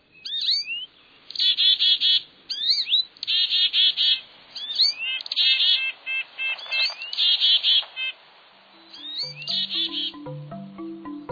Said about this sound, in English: If the bustle, color, and sounds of the birds don't break the dark mood, there's always that whaling ship.